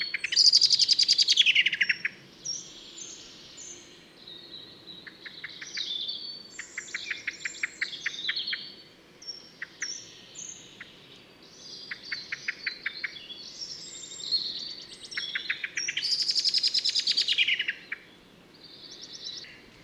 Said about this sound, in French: C'est une alarme de merle noire.